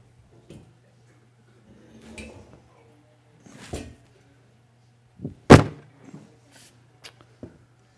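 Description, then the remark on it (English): A wooden chair leg being fitted back into place: scattered knocks, scrapes and taps, with one sharp, loud clunk partway through, over a faint steady hum and no talking. “Gotta do a little furniture repair here.”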